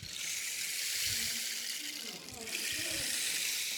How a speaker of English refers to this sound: And I made my daughter this rain stick.